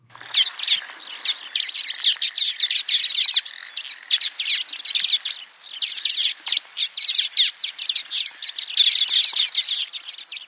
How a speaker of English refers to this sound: University of Hawaii at Hilo Professor Patrick Hart introduces us to the little red mask finch. This Manu Minute was made with field recordings from the Macaulay Library at the Cornell Laboratory of Ornithology.